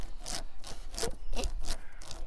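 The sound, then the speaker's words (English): Wood rubbing against wood in a repeated back-and-forth scrape, five or six rough, raspy strokes with a steady rhythm, fairly loud and with no voices. “The wood. Rubbing on wood.”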